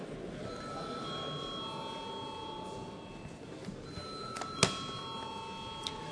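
A parliament voting bell, rung when deputies demand a vote on a proposal, rings steadily, holding a sustained tone with bright overtones over a low murmur of background noise, and a sharp click sounds near the end.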